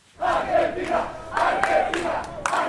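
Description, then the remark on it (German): A crowd of football fans celebrating on the beach promenade in Doha, Qatar, during the football World Cup cheers and chants loudly, many voices shouting together in a steady, sustained roar with rising bursts of excitement. “Feiernde Fans an der Strandpromenade, gesperrte Straßen, überfüllte U-Bahn-Wagen.”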